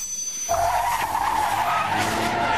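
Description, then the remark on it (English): A car tears along with its tires skidding, a sustained high-pitched screech starting abruptly and holding steady over a low engine rumble, loud throughout with no talking. “Whoa, this car goes fast.”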